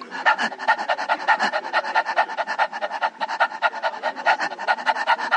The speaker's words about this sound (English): If you ever see a dog, it pants.